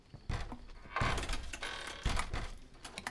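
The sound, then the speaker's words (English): Knocking on a door: a few heavy, dull thuds spaced irregularly over about three seconds, with some rattling and clatter in between and no voices. “Can someone get the door?”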